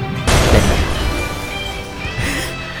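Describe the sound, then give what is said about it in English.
A sudden loud crash of breaking glass bursts in, followed by a bright, scattering tinkle of shards that rings on for a couple of seconds, with a smaller second clatter near the end. “The glass is always breaking. What's with the breaking glass?”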